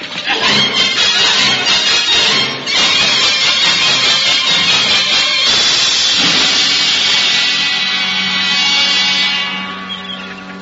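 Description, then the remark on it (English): Stormy sea waves of a maelstrom roar in a loud, continuous churning rush, surging with a brief dip early on and easing slightly near the end, with no voices. “Good heavens, we're in a storm. Storm nothing. It's a maelstrom.”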